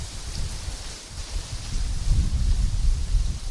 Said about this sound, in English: It's just a couple seconds later, so you guys can hear some of the wind and some of the rain. So it doesn't look too crazy right now. I mean, the rain is coming down huge, and you can hear the wind, but it's not super nuts.